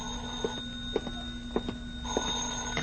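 A telephone rings in a steady repeating pattern, with evenly spaced metallic pulses over a constant tonal hum. No one speaks.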